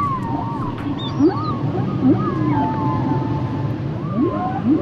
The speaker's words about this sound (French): La baleine à bosse. La baleine à bosse.